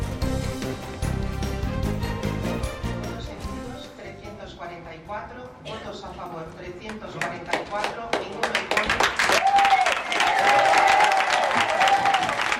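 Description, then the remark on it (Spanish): People affected by ALS, their families and carers break into sustained applause as Spain's Congress of Deputies approves the ALS law with all parties' support: dense, steady clapping swelling louder toward the end as cheers and a few high whistles rise above it, with voices mixed in throughout. “Aplausos, júbilo y mucha emoción entre los afectados por esclerosis lateral amiotrófica y sus familias y cuidadores, cuando en ese momento que escuchábamos, el Congreso de los Diputados aprobaba la ley ELA con el apoyo de todos los partidos políticos”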